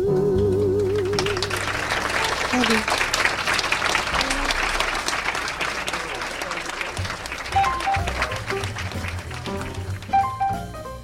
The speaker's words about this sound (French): Oh oui, on applaudit au club Jazz à Fip, un Jazz à Fip cosmique que vous nous avez préparé ce soir, Cédric, après l'éternité, les étoiles.